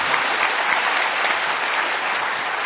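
An audience claps steadily for a few seconds in tribute to a former mission director, a dense, even wash of many hands with no pauses or cheering, at a constant moderate loudness throughout.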